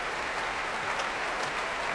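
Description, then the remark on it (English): Sustained, dense applause from a large audience in a very full concert hall as the conductor comes back onto the stage, a steady wash of many hands clapping at an even loudness with no gaps, and no voices standing out. “Huge warmth of applause from this very full hall.”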